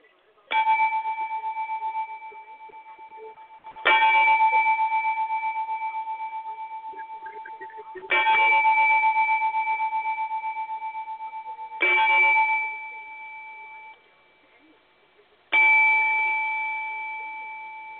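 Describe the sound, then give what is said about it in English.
A bell struck five times at slow, even intervals as part of a memorial ten-bell count, each loud, clear clang ringing out and fading before the next strike. No voices. “Preset! Bell!”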